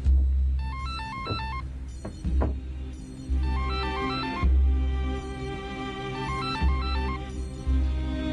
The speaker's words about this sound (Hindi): कोई फोन नहीं उठा रहा, दफ्तर की छुट्टी हो चुकी है।